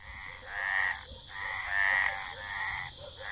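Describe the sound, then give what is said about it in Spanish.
A frog croaks in a steady series of buzzy, pulsing calls, about four drawn-out bursts with short gaps between them, moderately loud, with no voices. “También es la rana.”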